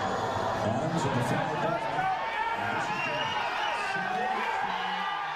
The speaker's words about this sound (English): Those are Chicago Cubs fans, and they're cheering, celebrating, because on Thursday, Chicago clinched the National League Central Division for the first time since 2008.